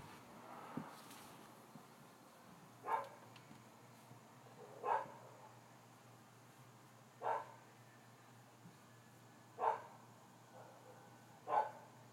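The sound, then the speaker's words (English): Dogs bark about five times, evenly spaced roughly two seconds apart, each bark faint and short over a steady low nighttime hum. “Just wanted to give you guys a little bit of nighttime sounds, which includes, the neighbors, traffic, and crickets, and barking dogs.”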